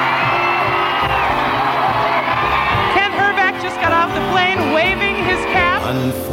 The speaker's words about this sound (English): The door of the plane is open. And the crowd is shouting, we're number one. We're number one. The Homer hankies are out. The pennants are out.